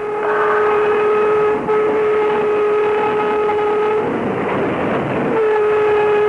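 A train runs steadily along the rails with a loud, continuous rumble and a sustained mid-pitched metallic whine, briefly dipping once and swelling into a rougher clattering rush near the end.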